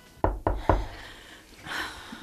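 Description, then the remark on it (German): Twins knock three quick, evenly spaced times on a wooden room door after lunch, solid with a low thud to each, followed by a brief soft rustling sound. “Nach dem Mittagessen klopften die Zwillinge an ihre Zimmertür.”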